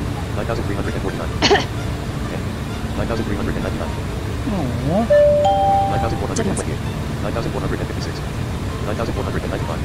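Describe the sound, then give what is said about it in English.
A short electronic alarm tone sounds once, a pair of clear steady pitched notes stepping upward, over a constant low rumble with indistinct voices murmuring underneath. “Well, that alarm sure gets your attention, you know?”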